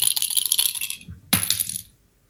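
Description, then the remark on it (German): Dice numbered 0 to 100 rattle and tumble across a dice tray, a clattering burst followed by a second sharp toss that skitters briefly before settling into silence. “Ja, auch die kann man würfeln.”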